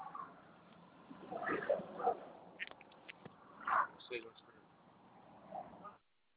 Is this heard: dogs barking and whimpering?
yes